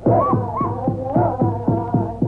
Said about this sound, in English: Hear those Indian tom-toms? They're beating out a throbbing rhythm for an ancient tribal dance, the Indian corn ceremonial dance, a tribute to corn, the principal food of the red man.